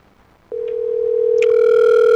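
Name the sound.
telephone dial tone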